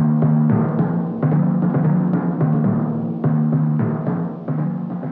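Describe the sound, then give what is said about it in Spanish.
Deep timpani drums in a symphony orchestra strike in a steady rhythm, roughly seven resonant booms whose low tones ring and sustain between hits, loud with no voices. “timbales o tambores. Con su larga trompa lo hace y suena bastante bien.”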